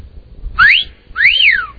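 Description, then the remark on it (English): A loud, piercing two-finger whistle sounds in two bursts: a short rising note, then a longer one that swoops up and falls away, with no talking. “I got to put the microphone there. Two fingers.”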